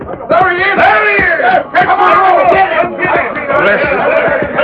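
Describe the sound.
A loud crowd of many voices yells and bellows at once, a dense, continuous roar of overlapping shouting that sounds like an angry mob, unbroken for several seconds.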